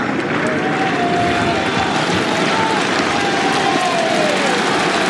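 A large tennis crowd cheers and claps steadily, urging Tsitsipas on, a dense wash of applause and encouraging shouts filling the space without pause, with a few voices briefly rising above the roar.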